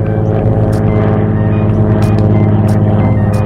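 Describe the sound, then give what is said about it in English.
A small airplane flying low over a park drones steadily overhead, its engine giving a loud, even buzzing hum with layered low tones that hold constant throughout, picked up by a park sound recorder, with no voices. “Small airplanes, flying low, sometimes buzzing overhead as many as 78 times a day.”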